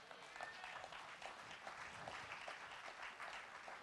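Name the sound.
audience clapping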